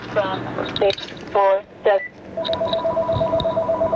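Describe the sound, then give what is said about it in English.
A telephone is picked up: brief voice-like electronic chirps, then a steady line tone with faint repeating beeps, over a slightly hissy connection. “How is it possible that they could, I'm gonna answer this phone.”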